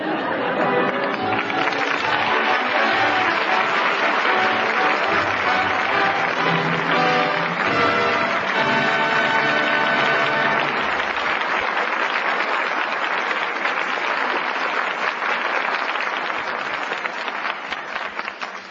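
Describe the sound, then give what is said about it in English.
Sustained audience applause at the end of the radio play Father Was a Fullback, calling back its stars Maureen O'Hara, Paul Douglas and Betty Lynn: a dense steady roar of many hands clapping at a loud, even level throughout, tapering only slightly at the very end, with a faint murmur of crowd chatter mixed in. “The curtain falls on Father Was a Fullback, and that well-deserved applause calls back our stars, Maureen O'Hara, Paul Douglas, and Betty Lynn.”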